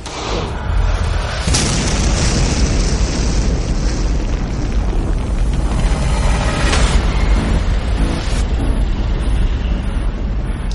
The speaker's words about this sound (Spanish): Ha sido una gran explosión. Madre mía, he visto un gran destello.